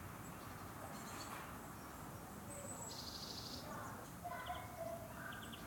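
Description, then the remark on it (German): Faint, scattered bird chirps in the trees in early spring on a day below freezing, short high calls that come and go over a steady outdoor background hiss, with no one talking. “Minustemperaturen und hört man einfach schon Vögel zwitschern und machen.”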